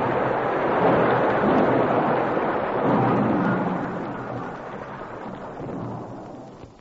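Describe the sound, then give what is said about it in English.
An avalanche of snow, ice and rock roars down a mountain, a loud continuous rumbling rush of noise that holds steady for several seconds before slowly easing off at the end. No voices are heard. “He pitched forward into the snow as the avalanche roared down behind him.”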